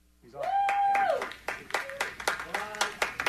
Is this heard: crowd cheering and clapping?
yes